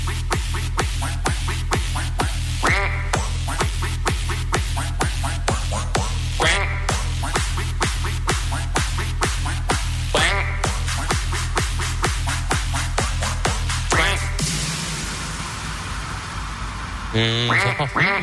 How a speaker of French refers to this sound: Ah, y a des coins quoi sur le live, j'adore. Oh là là, il est bon, le DJ. Y a rien de mieux que des canards pour bien finir la soirée.